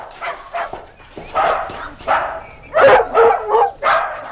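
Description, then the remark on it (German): A chorus of sled dogs barks and yips in a kennel at a sled dog centre, several animals overlapping in repeated bursts, with some whining mixed in. “Doch schon am Montag ging es wieder zum Hundeschlittenzentrum. Bruce und Katrina führten sie alle durch den Zwinger.”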